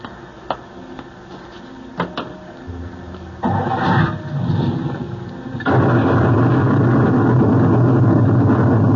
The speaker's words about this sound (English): Just as we left the coach, sir, a bolt of lightning struck. Lucky we weren't all blasted into the next world.